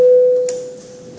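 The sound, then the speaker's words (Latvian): A steady electronic signal tone, rung in a parliament before a vote on a bill, sounds alone, starting loud and fading gradually over about a second, with a faint higher click partway through. “Paldies, lūdzu, zvanu, balsosim par likuma projektu grozījumu likumā par kriminālu likumu spēkā stāšanās un piemērošanas kārtību atbalstīšanu otrajā lasījumā.”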